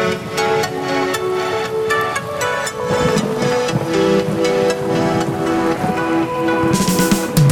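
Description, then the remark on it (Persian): Steady light drizzle patters and hisses on an autumn evening at dusk, layered over sustained musical tones, with a few soft thumps and a brighter burst of spray near the end. “بارون نم نم غروب پاییز، خیابون خیز”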